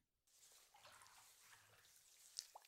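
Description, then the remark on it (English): Water runs steadily in a continuous hiss and splash as hair is rinsed, with a couple of brief brighter drips or splashes near the end and no talking. “Let the water run through it.”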